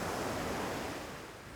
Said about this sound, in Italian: È tornato il Levante.